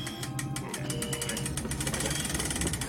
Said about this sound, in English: I'll raise the door manually.